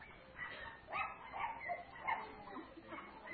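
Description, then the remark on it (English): A dog barks and yips repeatedly in quick, uneven bursts for a few seconds, sounding muffled, with a faint whimpering quality between the yaps. “Man, the preaching's gone to the dogs now.”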